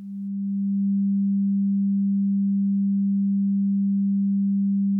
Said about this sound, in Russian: Чтобы понять, в чем он заключается, подадим тон фиксированной частоты в левое ухо.